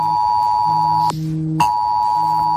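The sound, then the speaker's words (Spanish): A loud electronic mobile phone emergency alert tone sent by Civil Protection as a heavy rain warning, a steady piercing beep that switches abruptly to a lower pitch for about half a second and then back, with no voices. “Los interesados podrán recibir las alertas gratis, pero no será un aviso como el que nos llegó desde Protección Civil en septiembre del año pasado por un aviso de lluvias intensas.”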